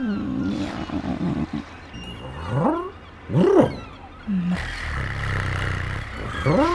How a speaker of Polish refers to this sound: Co to jest? Kot! Drapieżnik polujący na gołębie.